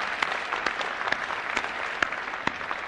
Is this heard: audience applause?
yes